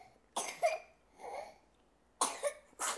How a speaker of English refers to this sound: God bless you. A cough and a sneeze, that's quite something.